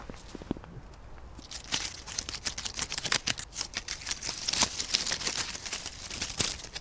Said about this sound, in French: Une maison avec une clôture de feuilles mortes. Écoutez le bruit des feuilles mortes.